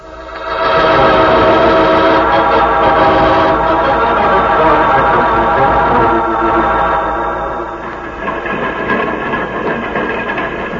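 A train rolls loudly along the rails with a steady, humming rumble and a sustained metallic whine, the sound easing and roughening slightly toward the end as it seems to slow.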